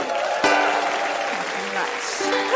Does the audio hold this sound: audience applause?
yes